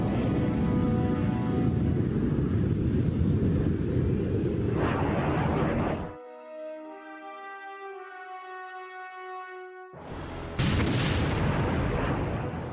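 Heavy, rumbling blasts and roaring noise fill the opening seconds, give way to a steady droning aircraft-like whine, then another loud burst of explosive rumble returns near the end. The source is American aircraft bombing in Afghanistan after the 2001 invasion.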